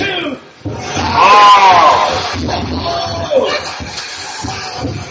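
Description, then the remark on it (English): A large arena crowd chants "BME" together, a loud, dense roar of many voices with a rhythmic push and occasional whoops rising above it, filling the whole space for several seconds. “The crowd's actually chanting it.”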